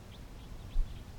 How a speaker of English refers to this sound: And about 15 minutes ago, a group of four Type 2 crossbills arrived on the scene.